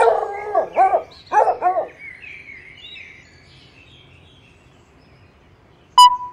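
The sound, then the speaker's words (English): A small brown dog gives three or four quick, yappy barks, then trails off into a long, fading whine, followed by a brief sharp click at the end. “Here, doggy. Come here, little dog.”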